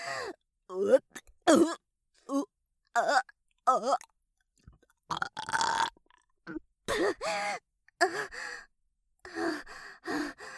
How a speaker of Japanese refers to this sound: いやだわ、ゲップなんてはしたない。